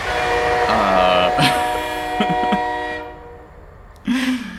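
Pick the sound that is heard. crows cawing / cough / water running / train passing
train passing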